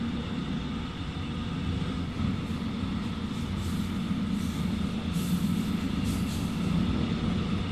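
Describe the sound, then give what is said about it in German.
A steady low rumble from inside a moving train arriving at its final stop, Chemnitz Hauptbahnhof, the constant hum of wheels and carriage noise holding at a moderate level with no voices. “Sehr geehrte Fahrgäste, wir erreichen jetzt Chemnitz Hauptbahnhof. Dieser Zug endet dort.”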